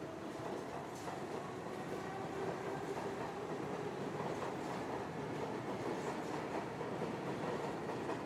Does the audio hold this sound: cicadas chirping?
no